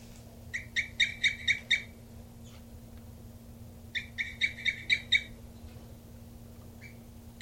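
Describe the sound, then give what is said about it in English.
A captive female bird, bird 3-3, gives two bursts of quick, evenly spaced high chirping calls, about six notes each, separated by a pause, while cooping off its nest, over a steady low electrical hum. “And this is bird 3-3 here, cooping off the nest.”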